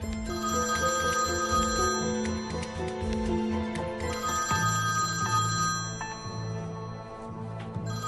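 A telephone rings steadily for several seconds with a call from work, a bright, layered electronic ringing with sustained high tones that shifts pattern partway through. No one speaks.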